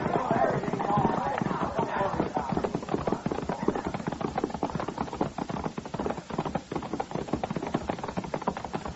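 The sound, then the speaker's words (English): Horse hooves gallop steadily, a fast, continuous pounding rhythm that stays loud throughout, with a rushing, noisy background suggesting motion. “Come on, grab a horse.”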